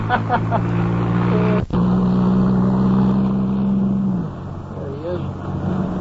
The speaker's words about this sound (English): See, he's honking his horn at us. Hi, Professor. Hi. Hi, Professor. What do you say there? Hello, Professor. Well, he's stopping his car. He's stopping his car, fellas.